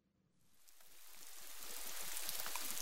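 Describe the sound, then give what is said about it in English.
Steady rain swells in over the first second into a dense, hissing patter, staying loud and continuous with no voices present. “It's rainy.”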